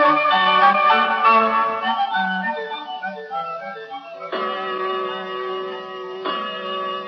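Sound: clock striking three o'clock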